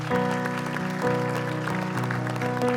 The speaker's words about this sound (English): Church, can we give God a hand clap for what he's done in the hearts of many?